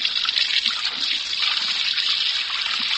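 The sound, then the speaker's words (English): A steady rush of hot water running from a tap pours continuously, a bright hissing flow with faint splashing texture and no pauses. “Hot water.”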